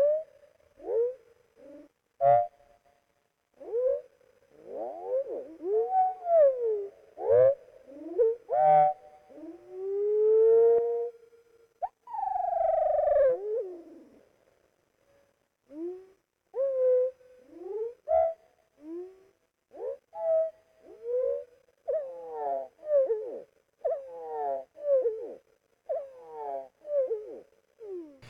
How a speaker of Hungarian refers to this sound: Most hallgassuk meg a tengelic csúszkáló hangokból álló énekét 8-szoros lassításban.